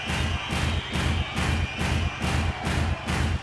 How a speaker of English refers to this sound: Now clap your hands. Stamp your right foot on the ground. Louder.